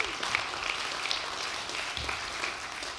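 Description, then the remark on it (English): A church crowd applauds after a song sung in French, steadily for about three seconds, a dense, even patter of many hands clapping at once, with no voices breaking through. “Yes, go ahead, clap. You can clap.”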